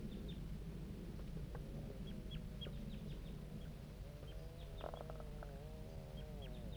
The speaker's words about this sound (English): Start recording the juvenile birds responding to bird 5-3.